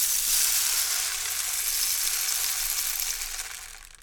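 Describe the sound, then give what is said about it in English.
Röfi's rainstick, which belonged to percussionist Röfi Rolf Ruprecht, pours out a dense, steady rush of tiny pattering grains, a bright hissing trickle that holds for several seconds and then gradually thins and fades. No voices. “The rain stick you here.”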